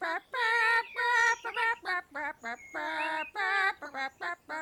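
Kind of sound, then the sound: bird, chickens clucking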